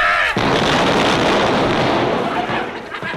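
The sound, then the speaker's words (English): A loud naval gun blast bursts in abruptly and rolls on as a dense, roaring explosion for a few seconds, overwhelming, with no voices. “The brass bedstead was sung by naval gunfire and Eccles went down with his mattress”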